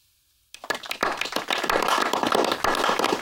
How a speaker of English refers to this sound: Why are we clapping?